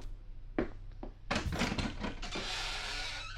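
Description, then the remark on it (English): A couple of dull clunks, then the big front door of the Munsters' house grinds and creaks open with a long, rough, sustained groan that lingers to the end, fairly loud with no voices. “Let me open the door for you.”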